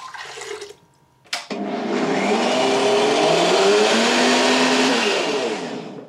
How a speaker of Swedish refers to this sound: Och så tänkte jag mixa det här på en grön saft som jag ska sila sen. Trycker ner all mynta i mixen och häller på limejuicen. Och så häller jag på lite mer vatten.